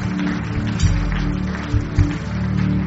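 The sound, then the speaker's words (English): The Koinonia church audience claps continuously for people coming forward to give their lives to Jesus, a dense, steady wash of hand claps over a low sustained drone, with a few louder bursts standing out. “Koinonia, let's begin to clap for them as they come.”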